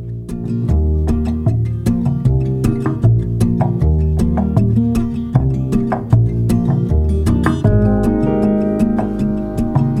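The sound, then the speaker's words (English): An instrumental pop intro plays with steady, clicking percussion ticking out a regular beat over warm, sustained bass and chords, with the fuller sound swelling slightly toward the end; no one sings yet. “But for now, here's a bit of my lovely girl”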